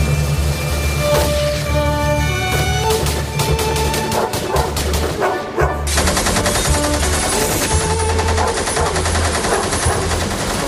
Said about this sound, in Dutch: Want ik hoor honden blaffen en ik hoor machinepistolen.